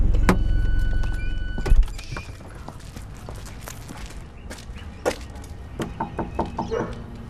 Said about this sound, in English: I'd really like to just sort of have a knock on the door and find out if he's willing to speak to us on the record.